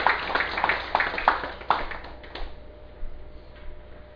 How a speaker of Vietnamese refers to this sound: Xin quý vị vỗ ra một tràng vỗ tay.